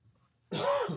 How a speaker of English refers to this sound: Excuse me, guys. Got a little bit of a cough this week.